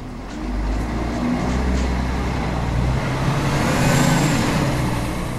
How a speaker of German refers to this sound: Wir verlassen Afferde und fahren mit dem Bus ans andere Ende der Strecke im Landkreis Hameln-Pyrmont.